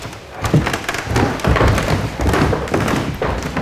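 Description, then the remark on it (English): Heavy footsteps thud steadily across creaky wooden floorboards, roughly one step per second, with faint creaks and knocks of the boards between strides and no voices, in a historic building with a Jacobean staircase, going up a flight of steps from the Great Hall toward the Archbishop's Retiring Room. “By lots of lovely creaky floorboards, which are fantastic.”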